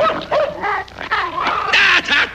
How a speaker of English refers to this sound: I thought you said your dog didn't bite. That's not my dog.